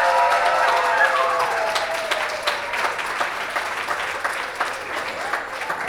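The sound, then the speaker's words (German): An audience claps steadily for five participants from the Praxisvolksschule, a dense wash of applause filling the room, with a few voices and a brief whistle-like tone rising through the first seconds before the clapping continues on its own. “Wir haben hier 5 Teilnehmerinnen aus der Praxisvolksschule hier im Haus. Applaus, Applaus, Applaus.”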